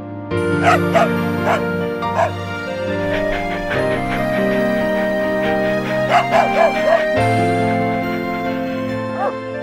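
A dog barks in short bursts, a quick cluster of three or four, then a few more yaps later, over steady sustained background music.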